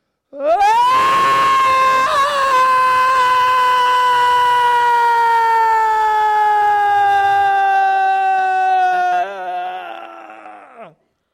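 A single long, high siren-like wail, likely a voice imitating a fire alarm, rises sharply at the start, holds loud and steady for about ten seconds, then slowly sags in pitch before cutting off.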